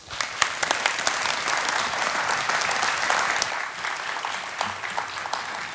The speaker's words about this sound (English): So at this time, get ready to clap your hands and tap your toes. You're allowed to do all those kind of things as we introduce ….